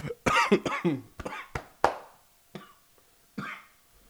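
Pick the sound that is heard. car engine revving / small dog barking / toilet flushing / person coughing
person coughing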